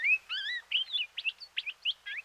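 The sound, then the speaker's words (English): A palila sings a quick run of warbling, high chirps and whistled notes, some sliding up and down in pitch, about eight phrases in steady succession with brief gaps and no talking. “When you spend a lot of time in their habitat, you hear them almost like talking to each other.”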